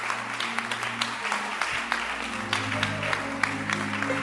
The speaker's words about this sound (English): Clap your hands for the Holy Spirit. I like Him.